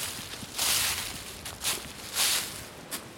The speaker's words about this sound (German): Ja, und die Bäume, ich laufe hier gerade berghoch, also ab und zu muss ich mal ein bisschen Luft holen. Einen Moment. Ich lenke das Mikro mal auf meine Schritte, dass ihr mal hört, wie ich hier durchlatsche.